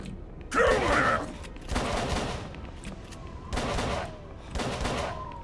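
Four heavy video game shotgun blasts boom out at uneven intervals, each a loud, full-bodied burst that rolls off into a ringing tail before the next shot.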